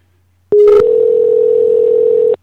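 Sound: telephone dial tone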